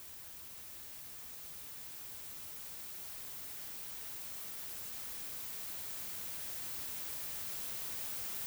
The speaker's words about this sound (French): Les instructions te demandent d'entrer en contact avec le bruit blanc, un son très délicat qui réagit à tout ce qui l'entoure. Ça, c'est le bruit blanc.